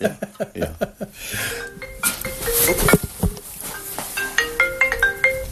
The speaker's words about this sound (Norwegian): Der fikk du en telefon. Det gjør ingenting, det var å vise at du er en opptatt mann.